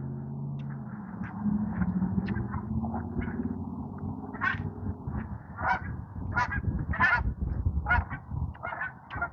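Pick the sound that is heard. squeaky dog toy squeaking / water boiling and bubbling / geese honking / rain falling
geese honking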